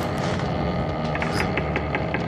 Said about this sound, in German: Hört es sich an wie Schritte? Seltsam. Meine Ohren spielen mir wohl einen Streich.